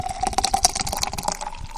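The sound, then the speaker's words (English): Guinness Draught beer pours steadily into a glass, a continuous gurgling splash with fizzy bubbling and a rising liquid tone, lasting a couple of seconds with no voices. “I sometimes have to just go ahead and pour out the beer”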